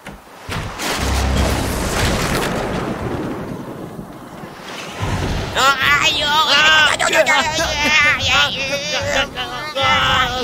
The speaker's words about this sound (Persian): طوفان داره منو از جا میکنه. کمک.